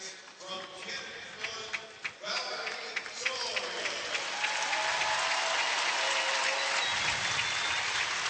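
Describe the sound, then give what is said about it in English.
A crowd bursts into steady applause for Valerie Solario of Cannon McMillan, the girls' 100-pound champion, as she takes the award stand; it builds and holds at a loud level, many hands clapping together with a few sharper claps standing out early on. “And I'll be interested to hear the applause that Solario gets here.”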